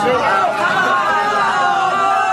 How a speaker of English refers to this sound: In case you couldn't hear, a reporter asked her if she knew the calorie count of the ice cream. That's why everyone started booing.